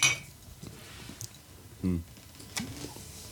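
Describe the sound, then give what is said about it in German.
Beer glasses clink together once in a bright, ringing toast right at the start, followed by a few soft knocks and a brief low murmur. “Prost. Prost.”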